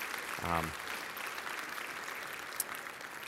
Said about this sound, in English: And yeah, give him a round of applause, absolutely.